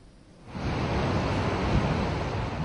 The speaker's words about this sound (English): The devastation by the floods in Pakistan is far from over. The gushing flood water is now washing away roads, housing and commercial infrastructure in the rural area of Seven Sharif city of southern Sindh province.